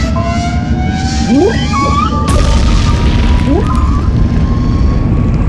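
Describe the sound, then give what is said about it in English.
A deep underwater rumble with steady tones and rising, whale-like calls, broken midway by a sudden loud crashing boom as a craft rams a whale, leaving a heavier, noisier roar, with more calls after it. “I'm gonna ram that whale.”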